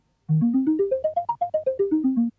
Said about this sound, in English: The basic sound in the middle section of the piece was made from the sound of water being slowly poured from a cider bottle. By taking just one of these sounds and treating it in the same way as the blown bottle, we get this.